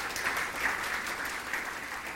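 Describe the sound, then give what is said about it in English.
A church audience gives the Lord a clap of praise, clapping together in steady, dense applause, a continuous crackle of many hands at moderate loudness with no voices on top. “Can we give the Lord a clap of praise for that, church?”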